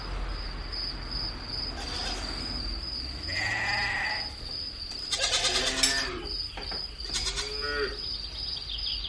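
Farm animals call out as goats are fed at a farm workshop, with a deep mooing low in the mix and several bleating goat cries in quick succession, over a steady high insect-like chirring background.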